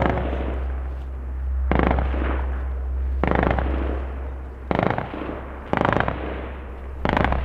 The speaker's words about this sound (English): The Taliban shoot at the shadowy figures rushing toward them. The commandos unleash a barrage.